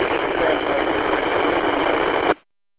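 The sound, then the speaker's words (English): A truck engine idles with a steady, even drone that sounds thin and tinny, as if heard over a phone line, as someone gets in the truck ready to take off, holding constant for a couple of seconds before cutting off abruptly. “I'm getting in the truck, and we're getting ready to take off.”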